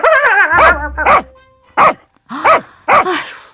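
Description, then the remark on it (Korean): A pet dog, startled while playing with a toy, barks five times in a quick, irregular series of sharp barks, opening with a brief whiny yelp. No one speaks. “오죽하면 우리 집 강아지도 장난감 가지고 잘 놀다가 남편 보고 갑자기 기겁하면 짖어요.”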